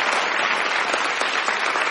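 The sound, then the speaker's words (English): An audience claps steadily, a dense wash of many hands applauding at once, loud, with no voices rising above it. “Can we have a round of applause for that?”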